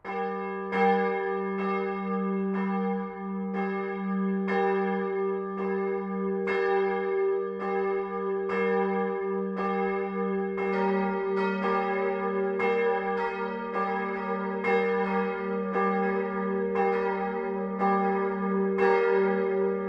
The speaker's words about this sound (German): Es ist 12 Uhr. Das Mittagsläuten kommt heute von der katholischen Pfarrkirche St. Bruno im unterfränkischen Niederwern.